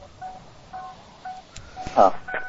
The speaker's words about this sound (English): Well, it's making noise. Is it clicking? That sounds like a door open with a key in the thing. Yeah, that's an open door.